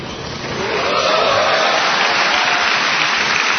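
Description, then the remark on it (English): A large crowd of more than 2,300 mostly National Guard and Reserve soldiers cheers loudly, the roar swelling within the first second and then holding steady as a dense, continuous wash of voices and clapping. “After the cheering from more than 2,300 mostly National Guard and Reserve soldiers died down,”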